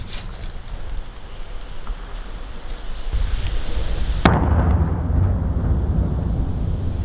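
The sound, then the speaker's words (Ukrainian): A single sharp explosion from shelling cracks out partway through, cutting through a steady low rumble of wind-like noise, with a faint high whistle just before the blast and no talking. “Стріляють по нам, вбивають нас.”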